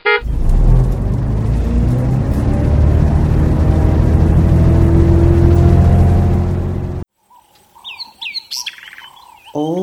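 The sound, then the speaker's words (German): A bus engine drones loudly and steadily for several seconds on a bus ride to Schloss Nymphenburg, then cuts abruptly to a quieter outdoor scene in a garden full of flowers, with birds chirping and tweeting. “Wollen wir mal mit dem Bus zum Schloss Nymphenburg fahren?”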